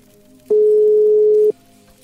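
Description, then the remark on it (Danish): A single steady telephone ringback tone, one flat mid-pitched beep lasting about a second, loud over faint background hiss, as an outgoing call, dialled on a phone by a radio programme host, rings. “Nu skal jeg lige trykke nummeret ind på Cleo, så den ringer op”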